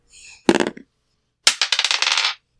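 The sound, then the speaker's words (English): A blue, turquoise die is rolled for game scenarios, clattering across a hard tabletop in two quick rolls, each a sharp impact followed by a rapid series of bouncing clicks that settle within a second; fairly loud, no voices. “I have this blue dice that I'm currently using. It's nice. It's like a turquoise. And I'm going to roll for scenarios.”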